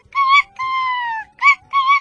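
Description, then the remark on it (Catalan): A rooster crows, a shrill, fairly loud call in four bursts: a short note, a long drawn-out middle note, then two quick closing notes, with no talking. “I en aquell moment, despertat per tot aquell soroll, el gall va començar a cridar.”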